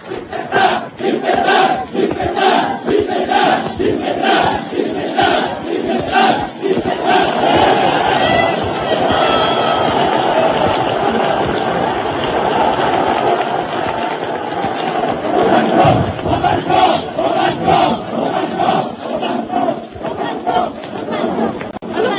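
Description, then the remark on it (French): A large crowd in Lyon, in front of the Place de la Préfecture, greets Marshal Pétain on his visit, roaring and shouting together in a continuous, loud wall of cheering that swells and surges without pause, with scattered voices rising from the mass throughout. “Et puis, c'est le premier contact avec la foule lyonnaise, devant la place de la préfecture.”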